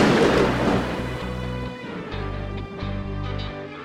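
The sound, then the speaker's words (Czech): A sharp, loud thunderclap from lightning striking a lone tree in a thunderstorm bursts out at once, then gives way to a deep rolling rumble that lingers and pulses for several seconds over a steady low tonal drone. “Sotva popoběhli pár kroků, zablísklo se a ozvala se strašná rána.”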